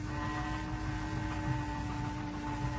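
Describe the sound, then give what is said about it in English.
A small portable power saw runs without pause on the deck of a yacht, a steady droning motor with a low rumble and a thin, even whine above it. The level never changes, and no one speaks. “Jerry is running a little portable power saw on the deck of the yacht to cover up the noise of the pumps transferring oil to Johnson's boat for the escape attempt.”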